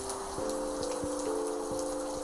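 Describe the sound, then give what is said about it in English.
Steady rain hisses in a continuous wash, with scattered drops tapping irregularly on a surface and a faint sustained tone humming underneath. “I'm waiting for the rain to stop, I said.”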